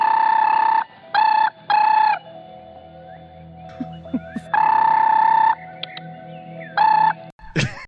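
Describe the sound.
Voices mimic a ringing telephone in loud, buzzy sung bursts: three quick rings, a quieter gap with faint background noises, then two more rings and a sharp final noise.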